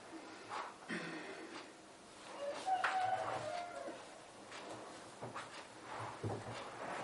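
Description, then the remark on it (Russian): A single rooster crows once, a drawn-out call rising and falling over a second or so, set against a faint, steady background hiss with no one talking. “Дзеновый петух нам песню спел.”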